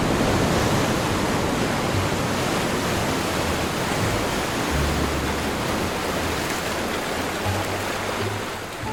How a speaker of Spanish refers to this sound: El sonido del mar, ese me encanta, y el de las olas reventando.